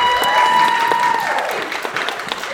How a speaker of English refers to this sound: You two are too good. Too good. A round of applause.